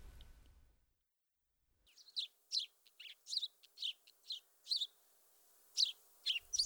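A house sparrow chirps in a steady series of short, bright notes, about a dozen in irregular bursts, clear, after a brief low rumble and a moment of silence.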